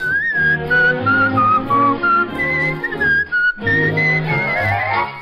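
A little tune played on a tiny penny whistle, its bright, piping melody hopping between notes over a full instrumental backing, loud and continuous for several seconds with a brief pause near the end.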